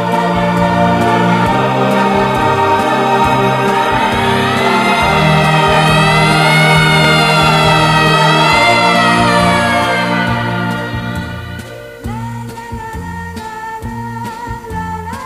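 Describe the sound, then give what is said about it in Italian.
A wailing siren rises and falls in the distance, blended beneath a steady, full musical backdrop, before fading out as the music carries on alone. “Ricordo che il nostro discorso fu interrotto da una sirena che correva lontano chissà dove.”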